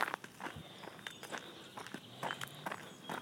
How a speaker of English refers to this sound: So I'm walking along the country road right now in front of my parents' farm.